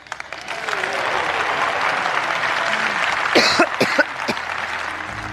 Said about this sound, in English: Ugh. But before Theresa May's cough, of course, we had Ed Miliband's brain fade.